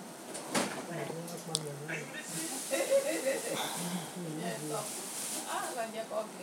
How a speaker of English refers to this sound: Oh, that's the outside door. That might be him now.